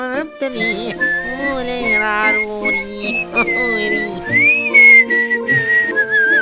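A young pig whistles her favourite song, a bright, wavering melody over a soft instrumental background, the pitch sliding and bending between notes for several seconds, clear.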